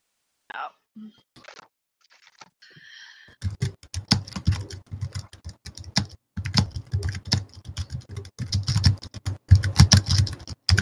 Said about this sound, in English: Who's playing the drum? Jason's typing.